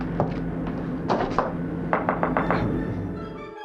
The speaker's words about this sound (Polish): Zostaw teraz te swoje wątpliwości i otwórz drzwi. Chwileczkę. Zapukam.